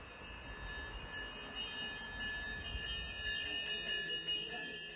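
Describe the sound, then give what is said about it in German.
Bright metallic bell tones ring out repeatedly in quick, uneven strikes as a man at the door of a Tamil Hindu temple in Berlin-Kreuzberg strikes the bells during New Year celebrations, layered over a steady background hum and murmur, fairly loud. “Ein dunkelhäutiger Mann steht an der Tür und schlägt die Glocken.”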